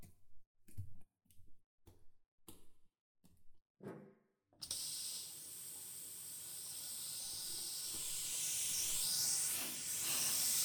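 A handful of short, evenly spaced knocks give way to the steady, hissing rush of water from a quick shower, which runs continuously and grows slightly louder toward the end. No one speaks.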